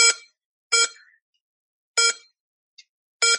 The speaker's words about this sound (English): So it says that, and then it draws the atom, and then when it gets to the valence electron, 2s2. It will make beeping noises. 2p4.